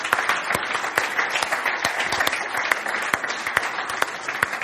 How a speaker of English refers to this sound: Praise God. Yeah, let's give the Lord a clap offering.